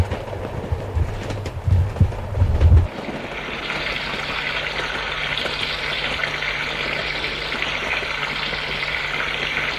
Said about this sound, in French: Il est 22h, j'espère que la douche n'a pas fait trop de bruit.